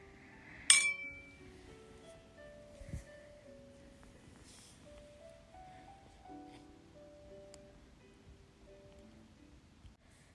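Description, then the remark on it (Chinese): Glasses of alcohol clink together once in a bright, sharp toast between a mother and her son near the start, followed by faint ringing and soft handling noises, with no one speaking. “那也要看你有没有这个本事了。干杯。”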